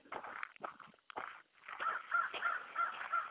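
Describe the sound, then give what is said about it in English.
A crow caws several times in quick, harsh bursts, then a run of short, evenly spaced high chirps follows outdoors, with no one speaking. “There's a crow.”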